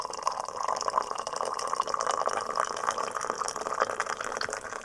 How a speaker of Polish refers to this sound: Warto jest lać wodę z wysokości, bo ona się podczas tego procesu dotlenia.